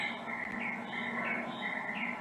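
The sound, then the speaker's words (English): A dense, steady chorus of birds chirping continuously in the background, a constant high twittering wash with no pauses and no voices. “A lot of bird ambiance.”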